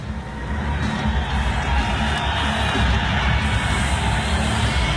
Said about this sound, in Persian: یک ویدیوی هست اگه موافق باشی ببینیم این ویدیو رو از تشویق تیم آمریکا و ورزشکارانش، بعدی صحبت میکنه راجبش.